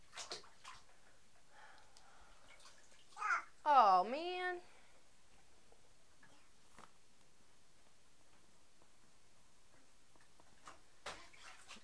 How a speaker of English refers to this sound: What are you doing, sweetie? You're getting water everywhere.